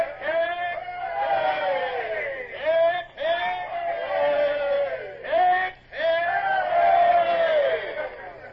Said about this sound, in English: Man the yards and have the men give 3 cheers as Lord Eastlake's boat pulls away. Aye, aye, sir. Man the yards! Man the yards! Now then, men, Lord Eastlake has brought you a present for saving the convoy. 3 cheers for his lordship!